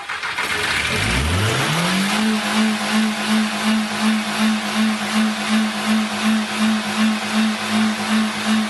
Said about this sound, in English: But let's go to see what happens after they started the car.